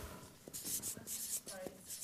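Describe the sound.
Several quick, scratchy strokes of a pen that won't write, scrubbing back and forth across a surface in short rhythmic bursts, fairly quiet, with a faint voice murmuring underneath.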